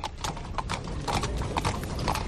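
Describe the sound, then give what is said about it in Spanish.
Hooves of a horse-drawn carriage clip-clop steadily on a hard street in Seville, Spain, a brisk rhythm of sharp knocks over a low rumble of wheels and outdoor background noise, as the carriage carries a singer's mortal remains through the city's streets. “Ahí estamos escuchando precisamente el sonido de los caballos, de ese coche de caballos que está llevando los restos mortales de la cantante”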